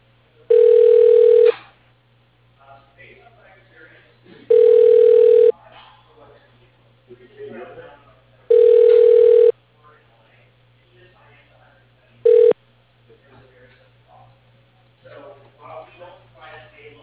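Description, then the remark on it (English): A phone line rings four times in steady, evenly spaced bursts as a call is transferred to a man's desk phone, the last ring cut short, over a low constant hum with faint murmuring voices between rings. “He's not in his office, but I'm going to transfer you to his phone, okay?”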